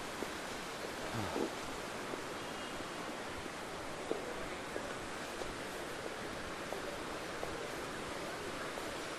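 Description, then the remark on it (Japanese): A small hot-spring stream with steam rising from it flows steadily with a continuous, even rushing hiss, unbroken, with a few faint clicks and shuffles underneath and no one talking, by a small hot-spring inn with a sign reading Kagaya. “流れる小川に、小川から湯気が上がってるの。本当に温泉。”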